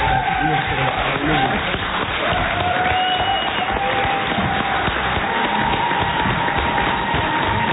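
Steady, dense applause from an audience in a gymnasium, a continuous crackle of many hands clapping at even loudness for several seconds, with faint cheering tones rising through it.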